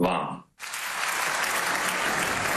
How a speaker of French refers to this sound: Zelensky, longuement applaudi, vous l'entendez, par les députés allemands.